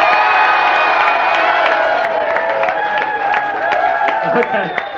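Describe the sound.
A crowd applauds and cheers loudly and continuously, with sharp claps scattered through a dense wash of whooping, shouting voices that holds steady for the whole stretch.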